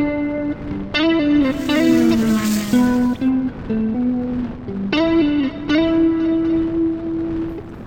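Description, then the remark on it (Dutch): An expensive car drives up with a droning, tonal engine hum that rises and drops in steps as it shifts gears, loud throughout, with no voices. “Is dit jouw auto? Ja. Maar afblijven hoor, hij is duur.”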